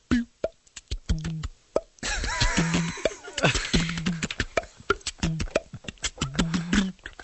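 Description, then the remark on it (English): Quick, rhythmic hand drumming with hollow, pitched slaps and thumps that mimic conga drums, played fairly loud, with a brief burst of noisy background in the middle. “I can do Kunga drums.”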